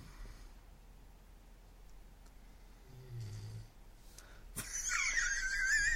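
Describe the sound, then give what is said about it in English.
A person snores: a low, rumbling drone followed by a sharp, whistling wheeze on the next breath, loud against quiet background hiss, with no talking. “It'll be here, … snoring.”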